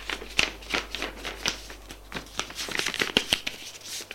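A sheet of paper, taken from a schoolbag, is handled and folded in four, giving a run of crisp rustles and sharp crinkling snaps, fairly quiet, with no one speaking.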